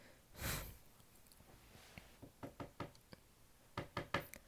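Sharp knocks rap on a door, first a broad thump, then a quick series of raps in small clusters, distinct against a quiet background; a police officer knocking to be let in.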